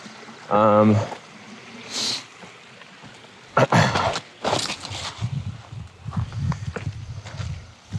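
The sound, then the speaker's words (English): River water rushes steadily at a river crossing on a through-hike, with several sharp splashing bursts partway through as if stepping through it. A voice briefly calls out near the start. “I'm trying to find a way around this river crossing.”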